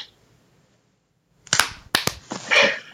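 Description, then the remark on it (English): A group tries to clap together on a count of three to sync up the sound but lands out of sync: a brief silence, then a ragged cluster of sharp, loud claps spread over about a second, ending in a noisy burst. “Yes, really quick, if you want to hear the clap across, we have to all clap at the same time.”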